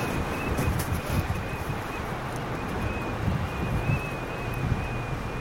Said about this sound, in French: Et après, pour se remettre de ce froid et de ce vent, qu'est-ce qu'on va faire?